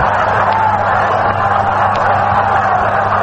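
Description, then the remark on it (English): A baseball stadium crowd rooting for the New York Mets cheers in a loud, steady roar that holds without a break, rising behind every pitch as Norm Sherry bats against Bob Miller, a dense wash of many voices with no single speaker standing out. “Crowd rising behind every pitch, rooting for the New York Mets.”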